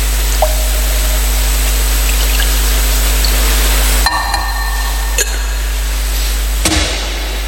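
A small amount of water is poured into a wine chalice, a soft steady trickle over a quiet hiss, with a few faint clinks of glass or metal and no talking.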